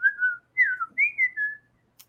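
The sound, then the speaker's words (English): A person whistles a short run of gliding, pitch-bending phrases imitating the speech-like whistle talk of cartoon characters who communicated only by whistling, three wavering tones fairly loud, followed by a faint click. “No, but and when in the original cartoon, they only communicated via whistle.”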